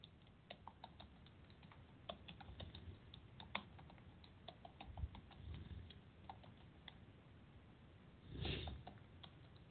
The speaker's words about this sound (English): I am silent because I am typing.